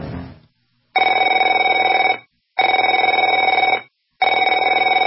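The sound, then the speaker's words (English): A telephone rings three times in a steady rhythm. Each ring is a loud, trilling electronic bell about a second long, separated by short pauses, with no one speaking. “Afraid to answer it?”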